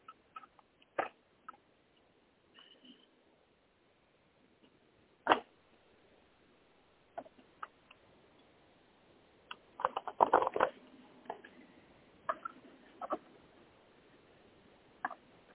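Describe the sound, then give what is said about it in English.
A deck of cards being shuffled three times: scattered soft papery snaps and taps, then a denser riffling flurry midway, with quiet pauses between and no voices. “One second while I shuffle the cards. Shuffling three times.”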